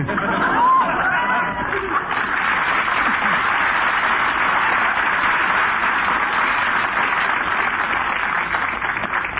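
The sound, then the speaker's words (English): Dense crowd chatter fills a busy department store, a steady murmur of many overlapping voices with no single speaker standing out, holding a constant loud level throughout. “It's crowded in here, ain't it?”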